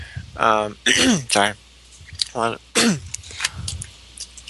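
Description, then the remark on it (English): Someone clears their throat in a handful of short, rough, voiced bursts, as if stifling a cough, with brief pauses between them. “I thought I was going to cough.”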